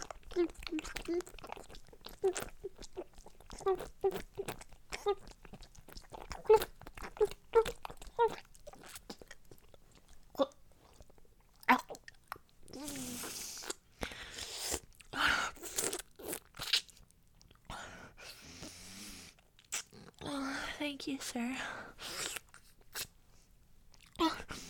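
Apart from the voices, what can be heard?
chewing and crunching food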